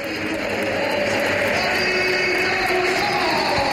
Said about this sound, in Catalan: Marxa en Thiago Pitarch i entra Mbappé, sentiu l'ovació del Bernabéu i també marxarà ara sí Carvajal i entrarà Trent.